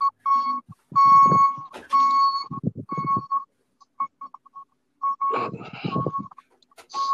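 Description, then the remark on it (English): A truck's reversing beeper sounds as the truck backs up, a steady, repeating high tone over and over, mixed with rough, rumbling bursts of other noise between and beneath the beeps, with no talking. “That's a truck backing up, I swear, not an alarm.”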